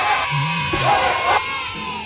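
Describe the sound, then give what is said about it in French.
An audience applauds themselves and cheers loudly at the end of a week-long event, a dense wash of clapping with rising shouts and whoops throughout, fading slightly toward the end. “Vous pouvez encore vous applaudir très, très fort.”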